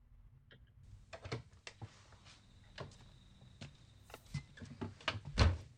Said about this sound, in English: Oh, shit. Oh, shit. Why is that door open?